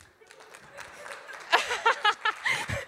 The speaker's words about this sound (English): Wasn't expecting that to be an applause moment, but okay.